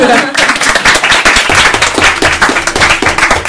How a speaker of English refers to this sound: You just want us to clap twice. Yes!